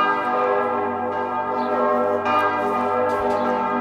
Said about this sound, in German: Das sind so Glocken, ne? Da kommt man ja, aber man muss bei Glocken muss man auch ein bisschen immer zuhören, denn die Schwingung, die so Glocken auf uns wirken, die wirken in uns nach.